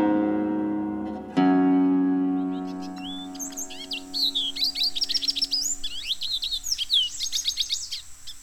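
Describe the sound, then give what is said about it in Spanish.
A steady tonal drone fades out over the first few seconds, then a lesser goldfinch (Spinus psaltria) sings a rapid, twittering run of high chirps and warbles, fairly loud, continuing to the end. “Jilguero dominico, de nombre científico Spinus altria.”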